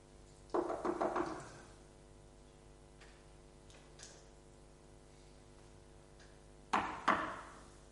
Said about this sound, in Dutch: Als je immers toch naar iemand toe gaat met een bepaald verzoek en je klopt op zijn deur, terwijl je een afspraak met hem hebt, dan wacht je toch.